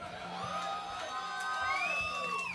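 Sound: audience cheering and whooping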